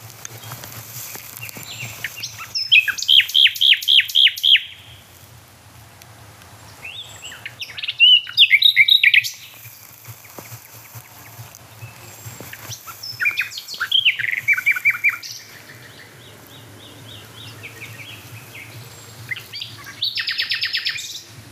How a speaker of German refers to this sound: Quasi die Hotspot-Nachtigall hinter mir und vor mir hört man diese da. Also so halb links und dann halb rechts.